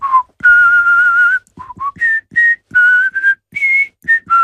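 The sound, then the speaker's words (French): A man whistles the overture of Wagner's opera Rienzi alone, with clear sustained notes and shorter phrases rising and falling in pitch, fairly loud, with brief breaths between phrases. “Je vais vous siffler l'ouverture de Rienzi, donc je me ridiculise, mais c'est pour rire.”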